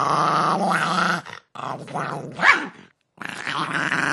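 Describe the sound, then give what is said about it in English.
A small Maltese dog growls in long, rumbling bursts, breaking off briefly twice before starting up again, loud and steady throughout. “is a dog, Chuchi, the Maltese.”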